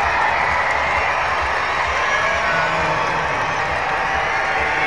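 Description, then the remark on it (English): A crowd of 6,721 roars and cheers steadily at a baseball game, rising to their feet with two outs in the ninth inning, a dense, sustained wash of voices and applause holding at a loud, even level throughout. “This great crowd of 6,721 to their feet.”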